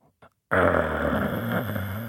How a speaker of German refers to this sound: Als Tilda durch den Torbogen hechtete, hörte sie ein knurrendes Geräusch, das sie erstarren ließ.